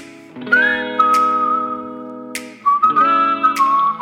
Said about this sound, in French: Et il aime beaucoup siffler, … aussi.